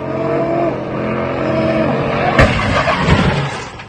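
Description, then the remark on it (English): An exhibition driver's car revs hard while doing donuts in the middle of John Rogers Drive in East Birmingham on a Friday night in December, its droning pitch sliding up and down; a sharp crack cuts in partway through before a rougher, noisier roar of engine and tires. The driver crashes into a crowd of onlookers. “First responders reported in a video posted on social media, an exhibition driver doing donuts in the middle of John Rogers Drive in East Birmingham crashes into a crowd of onlookers.”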